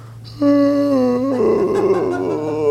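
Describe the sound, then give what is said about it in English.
A long, loud yawn: a sustained voiced tone that breaks midway into a breathy, wavering, falling groan, lasting about two seconds over a steady low hum, with no talking. “Yawning, sighing, tired.”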